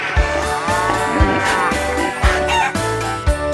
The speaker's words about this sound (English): Moo, moo, says the cow. Here on the farm, here on the farm.